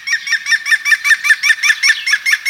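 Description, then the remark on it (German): A green woodpecker's laughing call: a rapid, even series of about a dozen loud, ringing notes, heard alone without any talking. “Und damit Sie auf dem Weg dorthin genau hinhören können, kommen hier nochmal im Schnelldurchlauf die Vogelstimmen, die wir Ihnen vorgestellt haben. Der Grünspecht.”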